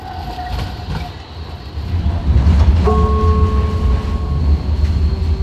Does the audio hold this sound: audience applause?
no